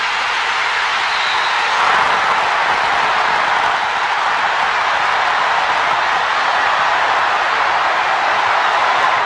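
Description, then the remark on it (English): A huge arena crowd roars and cheers without letup after Christian Laettner's winning shot against Kentucky in a college basketball game, a dense, loud, steady wall of screaming and clapping that holds for the whole stretch with no voice above it. “I mean, Vern Lundquist just let the crowd take over, and that's a conscious decision.”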